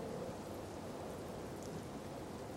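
Soft, steady rain patters continuously with a dense, even hiss and no voices, staying gentle and consistent throughout.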